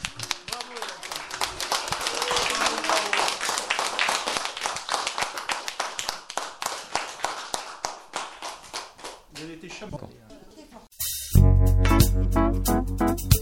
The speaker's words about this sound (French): Pour cela, on va vous applaudir et vous pouvez dire à nos représentants qui sont ici, merci beaucoup en applaudissant également. Bravo.